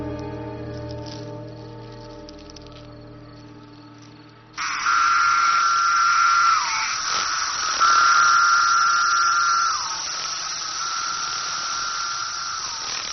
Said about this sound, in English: After an absence of 17 years, the forest is now overrun by cicadas. The adults are clumsy and very edible.